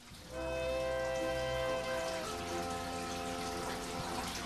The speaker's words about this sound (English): I'm in a room stacked with rows of 50-gallon fish tanks, surrounded by gurgling water pumps. But this isn't a fish store.